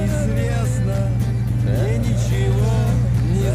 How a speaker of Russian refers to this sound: Ехал по ночной дороге таксист.